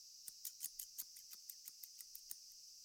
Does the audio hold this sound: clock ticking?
no